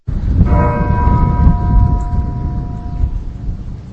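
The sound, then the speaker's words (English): A church bell in Massachusetts tolls once in remembrance of the marathon bombing, its ringing tone lingering and slowly fading over a dense, rumbling outdoor wash of low noise. “bells tolled across the Commonwealth of Massachusetts”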